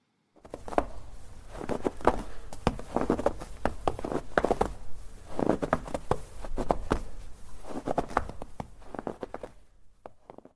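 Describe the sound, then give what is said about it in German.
Footsteps of a patrol crunching through snow in a trench on the contact line in eastern Ukraine, a steady, uneven run of scuffing, crackling steps lasting the whole stretch, with no voices. “Das sind Schritte. Das ist eine Patrouille. Das ist der Gang durch einen verschneiten Schützengraben an der Kontaktlinie in der Ostukraine.”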